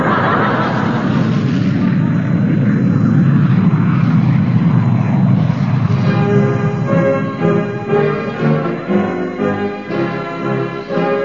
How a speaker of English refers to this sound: Ready to start, engine? Don't forget it's a vertical takeoff, sir.